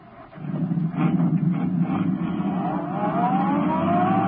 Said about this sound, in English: Turning onto the road, Britt Reed pressed down on the accelerator. The sedan sped along the concrete after Brinkley's car.